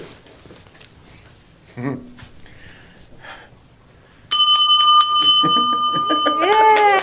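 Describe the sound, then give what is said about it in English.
White Sox pitcher Liam Hendriks rings a hand bell as he gets out of cancer treatment. Its bright metallic tone sustains and clangs loudly after a stretch of quiet background murmur, with excited voices rising near the end. “You remember on April 5th, he played some sound of him ringing the bell as he got out of cancer treatment.”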